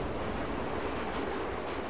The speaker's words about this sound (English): A train rolls through the countryside in evening twilight.